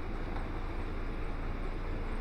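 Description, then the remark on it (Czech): An approaching tram's engine, heard from inside the tram, drones with a steady, low rumble and a broad hiss above it, holding an even loudness throughout with no voices. “Bude se nám přibližovat zvuk motoru.”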